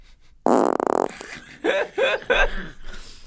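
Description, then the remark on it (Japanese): A loud, buzzy fart rips for about half a second with a rattling, raspy texture, followed by three short voiced bursts that sound like giggles. “ブッ、ごめんなさい、こういう時どうしたらいいかわからないの。もう一発こけばいいと思うよ。”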